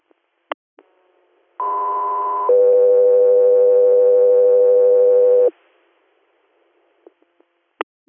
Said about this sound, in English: Echo 3 Air, stand by for tones.